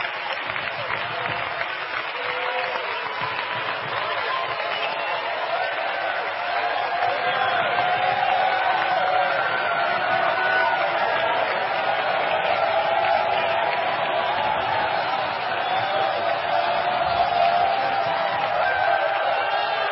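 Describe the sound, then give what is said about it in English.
A large audience claps steadily and loudly in praise of the Lord, a dense sustained applause with scattered voices and occasional shouts mixed into the crowd noise. “Oh, let's give the Lord a hand clap tonight. Let's really praise Him.”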